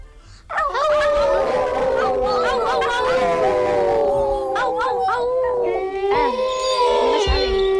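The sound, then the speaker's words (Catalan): Several people imitate a wolf howling together, their long overlapping wails sliding up and down in pitch, loud, sustained for several seconds with no other talk. “Vinga, un llop.”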